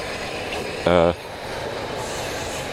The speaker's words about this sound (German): Behold, U-Bahn.